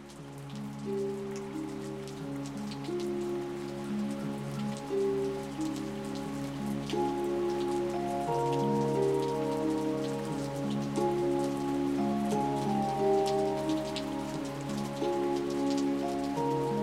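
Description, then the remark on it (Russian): Steady rain patters on a hard surface, a continuous hiss dotted with crisp droplet ticks, while soft sustained musical tones drift underneath. No one speaks. “Дождь все лил и лил, и казалось, что конца ему не будет.”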